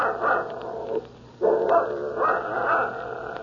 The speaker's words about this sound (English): Shut that dog up.